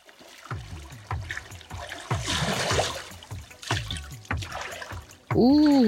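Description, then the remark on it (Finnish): Water splashes in a steady rhythm, like strokes through a lake whose water is already a little cool, moderately loud, about two per second, then a loud wavering tonal sound cuts in at the end. “Alkaa olla vesi jo pikkasen viileää.”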